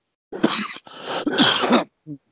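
A loud coughing fit of three harsh, rasping bursts in quick succession, ending with a short voiced throat sound.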